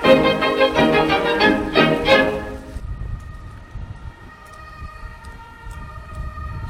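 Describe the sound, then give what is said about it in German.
The siren of a police car in Greiz, on its way to an emergency call, blares loudly with a pulsing, electronic tone for a few seconds, then carries on as a thinner, steadier and quieter wail until the end. “Du bist das Polizeiauto von Greiz?”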